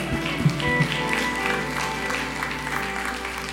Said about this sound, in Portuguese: Aplauda ao Senhor Radical.